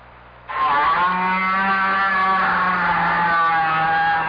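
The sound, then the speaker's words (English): A whale vocalization from deep down in the ocean: a loud, sustained buzzing drone with layered harmonic tones that kicks in abruptly after a brief quiet stretch and holds steady, sounding much like a revving motor. “Because each sound was made by a whale. That's right. A great big blubbery old whale just buzzing and clicking and grunting away deep down in the ocean.”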